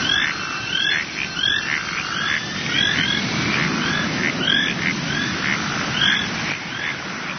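Birds chirp over and over in a busy, overlapping chorus, bright short calls repeating throughout against a steady low rumbling background, with no one speaking.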